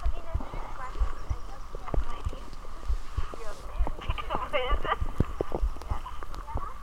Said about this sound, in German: Hört ihr den Regen? Seid mal leise. Leute.